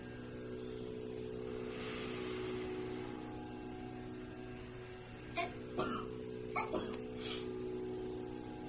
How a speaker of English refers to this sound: That is always normal when you relax. Please don't feel embarrassed. When one relaxes, sometimes tensions go and we cough and no problem at all.